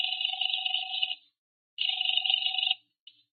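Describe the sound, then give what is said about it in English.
A telephone ringing on the line as an outgoing call to the second of three numbers found in a phone book connects: two steady, buzzy rings separated by a short pause, then the start of a third cut short. No one speaks. “There were three George Brewsters. The first number didn't answer. I tried the second.”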